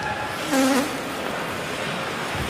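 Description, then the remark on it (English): A single short, buzzy horn blast, blown in the crowd at an ice hockey game, with a slightly wavering mid-low pitch rises briefly above a steady wash of background noise, then fades out. “I don't know if that was a horn in the crowd. That was a horn.”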